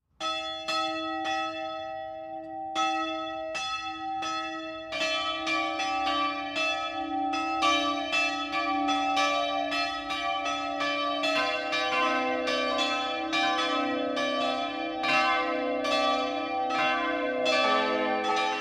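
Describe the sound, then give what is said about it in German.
The four church bells of the Epiphaniaskirche in Eschau, Lower Franconia, Bavaria, together weighing over a tonne (the heaviest 454 kg), ring together in the noon peal. Their overlapping strikes form a steady, continuous wash of tolling that stays loud throughout, with no voices. “Das Mittagsläuten kommt heute von der Epiphaniaskirche im unterfränkischen Eschau.”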